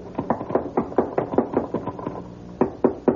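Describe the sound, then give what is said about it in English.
Someone at the top of a ladder bangs hard on a wooden trap door overhead so the man working up there will hear: about a dozen loud, hollow thuds in quick, uneven bursts, with a brief pause before a final few blows. No voices. “You get to the top, just bang on the trap door.”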